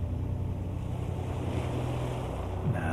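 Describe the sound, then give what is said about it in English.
Steady ocean surf washes continuously onto a beach, a broad rushing roar with a low rumbling swell and a faint breathy hiss of wind, with no voices. “You will be more relaxed than you have ever been before because you are on the beach.”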